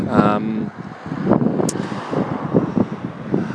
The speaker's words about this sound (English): And there is a similar water theme here, and traffic theme as well, in that this time I'm looking out from where the Boyne River meets the sea. And the weather is quite different this week. It's very blustery, it's very windy.